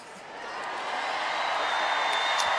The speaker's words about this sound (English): So they are simulcasting Kamala Harris into the bowl here at the United Center in Chicago. The crowds in both arenas going nuts. Hey, Milwaukee! Milwaukee happy to have Kamala Harris tonight.